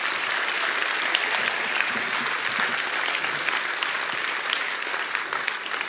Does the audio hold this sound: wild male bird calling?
no